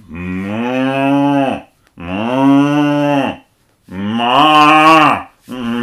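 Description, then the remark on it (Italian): A cow moos loudly, three long drawn-out bellowing calls separated by short pauses, with a fourth starting just as it ends. No voices or other sounds accompany it. “Passò Comare Mucca.”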